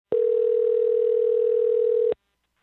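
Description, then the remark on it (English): A single steady electronic telephone ringing tone, one two-second burst heard through the line as a journalist places a call, clear, then silence, with no voices. “but their phone number is easily accessible, so I gave them a call, and honestly, I didn't know what to expect.”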